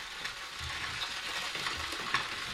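Harvester ants chewing wood with their mandibles as they dig their galleries, tearing out wood chips, heavily amplified through a contact microphone placed inside: a dense, steady, sizzling crackle of tiny scratchy clicks, with a few sharper snaps standing out. No voices.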